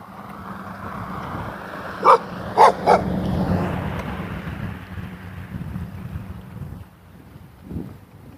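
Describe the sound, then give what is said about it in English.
A dog being walked by a woman lets out three quick barks in close succession, fairly clear, over a steady outdoor rumble of wind and low engine-like noise on a muggy, cloudy day. “Lady walking another dog, it looked like the same dog.”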